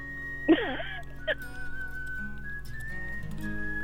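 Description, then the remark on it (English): A whistled western-style tune at the start of a song opens with a sharp, swooping note, then settles into a long, steady whistled tone held clearly over a faint, busy instrumental backing. “Oh, it sounds like a spaghetti western theme.”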